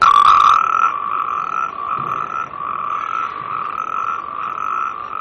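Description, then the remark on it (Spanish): A dense, continuous chorus of frogs croaking near a pond, with steady high-pitched trilling calls layered together at a loud, even level throughout, and no voices. “Y es que vas paseando y de repente escuchas esto y yo digo, aquí cerca hay una charca porque me suena a anfibios.”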